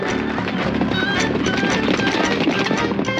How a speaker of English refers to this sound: More horses! Bring them in! What did they say? They're bringing in the poor horses.